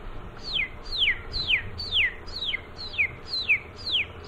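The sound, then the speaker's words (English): A person imitates the call of a crippled quail to call up a covey of quail: eight short, high whistles, each sliding downward, repeated at a steady half-second pace, fairly clear, with no talking. “anywhere you see a covey of quail, I can call them up to the car”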